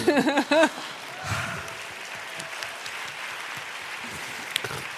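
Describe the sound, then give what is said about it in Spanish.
A brief burst of voice gives way to steady audience applause, a dense crackle of many hands clapping that holds at an even, moderate level for several seconds. “Me encanta que te aplaudan por existir, ¿sabes?”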